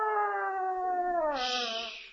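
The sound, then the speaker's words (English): A single long wolf howl in a swamp, a steady wavering tone that slides slightly downward and turns breathy near the end. It's loud, with no talking over it. “I hear a wolf.”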